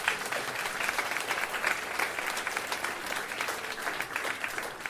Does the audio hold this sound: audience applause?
yes